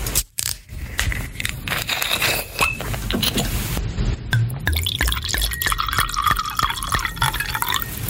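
Wine being poured into glasses, a steady splashing fill with a rising gurgling tone, preceded by a few clinks and bumps, with no talking.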